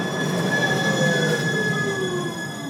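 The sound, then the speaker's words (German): A line 27 tram rolls past through the Maxvorstadt in Munich with a sustained, high metallic wheel squeal ringing in several steady tones over a constant rumble, loud throughout, with no voices. “Wenn an einem sonnigen Sommertag die Fenster der Wohnung sperrangelweit offen stehen, höre ich die 27er durch die Maxvorstadt schnurren, ganz planmäßig.”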